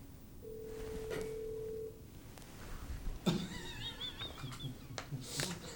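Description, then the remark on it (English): A room telephone rings with an incoming call: a steady electronic beep tone, then a warbling, trilling ring pattern, moderately quiet against a low background hum, with no talking. “It's an incoming call.”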